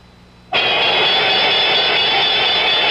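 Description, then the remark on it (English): After a brief hush, the New York Stock Exchange's loud trading-floor closing bell starts abruptly and rings continuously, a harsh, steady metallic clang that holds at full volume to the end with no talking. “The famous closing bell at the New York Stock Exchange.”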